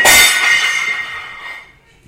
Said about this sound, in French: Même ses amis les chats réussirent à l'inquiéter en se chamaillant. Et en faisant tomber la casserole et couvercle.